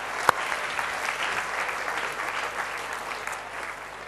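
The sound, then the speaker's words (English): An audience claps steadily, a dense patter of many hands at moderate volume with one sharper clap near the start, continuing without talk for a few seconds. “Well done, everybody. Give yourself a clap.”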